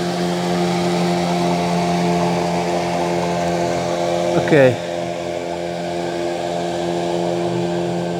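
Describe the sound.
A tour boat engine drones steadily throughout, a low humming rumble at a constant level, with a person speaking one brief word about halfway through.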